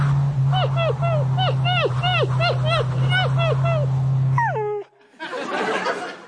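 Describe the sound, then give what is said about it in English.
A dog strapped to the roof of Mitt Romney's car whimpers in a rapid series of short, falling whines over the steady low drone of the moving car, ending with a louder cry and a burst of rushing noise. “Oh, I'm guessing this is Mitt Romney strapping the dog to the top of his car.”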